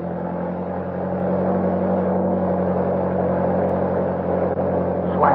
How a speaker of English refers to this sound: All right, kick that motor over.